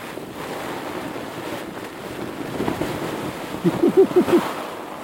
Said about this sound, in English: And now the rain is hammering through the hole in the door, and all my kit's getting wet.